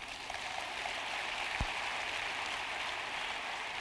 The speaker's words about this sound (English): Hello? Clap your hands.